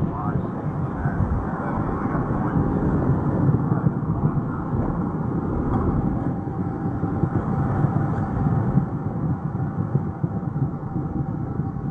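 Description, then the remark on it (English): Space Shuttle Atlantis's rocket engines roar steadily during ascent from the Kennedy Space Center, about 1 minute 40 seconds into the flight, traveling almost 2,600 miles an hour at 21 miles altitude before solid rocket booster separation; a dense, unbroken rumble heavy in the low end that holds an even loudness without fading. “Atlantis traveling almost 2,600 miles an hour, 21 miles in altitude, 24 miles downrange, standing by for solid rocket booster separation.”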